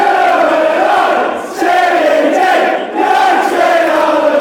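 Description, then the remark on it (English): A rowdy crowd sound effect: a crowd cheers and roars loudly and continuously, with dense overlapping shouting voices that swell in two brief dips before surging back up. “Not the drunk crowd.”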